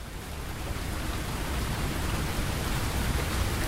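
Steady rainfall hisses evenly across the whole stretch, a dense, continuous wash of drops with no pauses, moderately loud, with no voices.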